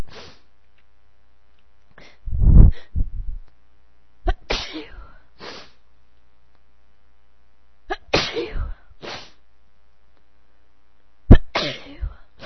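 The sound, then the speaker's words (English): A series of loud sneezes with sharp explosive bursts, spaced irregularly with sniffs and inhales between them, one big sneeze near the start and more toward the end. “No matter how much I sneeze, I feel like I have to sneeze again.”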